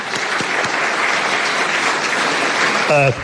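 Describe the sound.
A crowd applauds steadily, dense clapping filling the whole stretch at a fairly loud, even level, with a brief voiced tone rising near the end.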